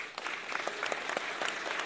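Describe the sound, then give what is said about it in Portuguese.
Steady audience applause at a Samba da Vela samba gathering, a round of applause for everyone who supports it: many hands clapping in a dense, continuous patter of sharp claps, fairly loud throughout with no voices standing out. “Eu queria pedir uma salva de palmas aí para todos.”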